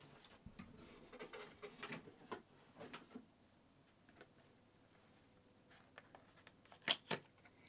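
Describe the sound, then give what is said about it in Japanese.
Handling noises as a second, new bottle of lotion is opened after the first ran out: a flurry of crinkly taps and rustles, a quiet pause, then two sharp plastic clicks near the end. No one speaks. “ちょっとさすがに使いすぎちゃったのか、ローションちょっとなくなっちゃったんで2個目開けます。”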